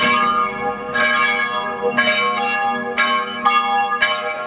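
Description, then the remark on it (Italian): Church bells ring out in a steady peal in the small village of Scanno, above Lake Scanno, strikes landing about once a second with long shimmering overtones that blend together, loud, with no voices present. “Suonano le campane qua a Scanno, che è questo paesino che si trova sopra il lago, il paesino del lago omonimo, il lago di Scanno.”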